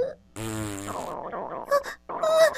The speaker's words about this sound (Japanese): なるべく音が出ないように、ゆっくり力を抜いて。ダメ、これ、おならと一緒にうんちまで出る。